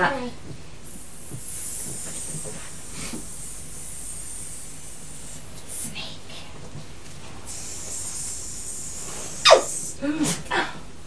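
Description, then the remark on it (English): A child imitates a snake's hiss, with a few short, sharp hissing bursts near the end over a faint, steady background hiss and soft murmuring voices. “You could be a snake.”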